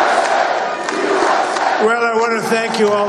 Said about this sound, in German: Jubel in Florida. Wahlsieger Donald Trump betritt in seinem Wahlkampf-Hauptquartier die Bühne.